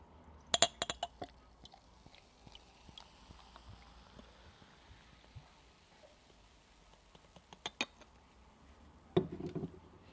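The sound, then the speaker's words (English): Marston's Hobgoblin beer from a 500ml bottle (Witchwood Brewery, Witney, Oxfordshire, England) pours into a half-pint glass tumbler: a few sharp glassy clinks early on and mid-way, then a short, fizzy splash of liquid near the end. Quiet and without speech. “Do a pour.”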